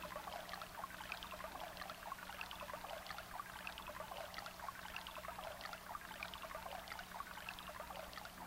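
A small, clear brook babbles steadily beneath a small bridge on a meadow path, water trickling and gurgling over stones in a continuous, even stream with no voices, moderately quiet.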